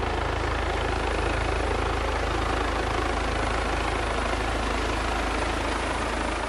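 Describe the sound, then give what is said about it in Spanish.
A medical rescue helicopter, the SUMMA 112, runs steadily and loudly, its rotor producing a continuous rhythmic low thumping over a dense roar of engine noise throughout, with no voices audible. “se hace necesaria la presencia de nuestro helicóptero, el SUMMA 112, en el lugar para cortar el tiempo de traslado.”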